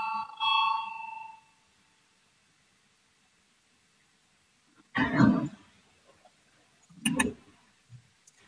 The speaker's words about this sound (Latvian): Lūdzu zvanu, balsosim par 165. deputāta Valāņa priekšlikumu.